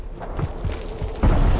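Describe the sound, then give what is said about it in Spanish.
The third volcanic vent explodes, hurling lava fragments at supersonic speeds: a few deep, muffled thuds rumble first, then a sudden loud, roaring blast bursts out and keeps booming to the end. “La explosión lanza trozos de lava a velocidades supersónicas en dirección contraria a la ubicación del grupo.”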